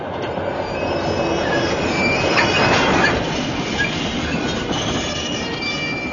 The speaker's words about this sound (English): I felt our wheels freeze beneath us and saw sparks fly in every direction from the rails as we struggled to avoid a collision.